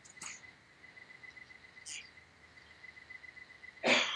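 A person coughs, two faint short coughs followed by a louder, sharper one at the end, with a steady insect-like chirring hum running underneath throughout.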